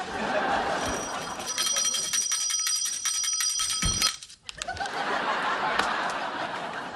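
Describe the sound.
A small bell, given to a baby in a hospital ward, rings rapidly and insistently for a few seconds, bright. It then stops abruptly amid murmuring voices and a bit of laughter in the background.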